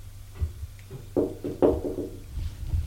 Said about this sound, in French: Demi-heure plus tard, elle quitte sa chambre pour aller au salon voir la vieille. Frappe à la porte.